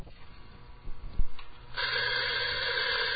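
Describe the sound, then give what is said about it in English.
A few soft clicks and a dull thump, then hot water pours for coffee in the break room of a remote broadcast facility, a steady, even hissing stream that continues to the end. No one speaks. “And that requires a little bit of hot water, a little.”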